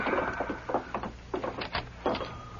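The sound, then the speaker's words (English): A door is opened with a quick series of rattling clunks and scrapes, several short bursts spread across a couple of seconds against a low background hum. “Open the door, Dave.”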